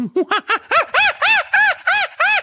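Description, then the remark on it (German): A person imitates a chimpanzee with a quick run of about nine hooting calls that climb in pitch and grow louder, with no other sounds. “Mach mal einen Schimpansen.”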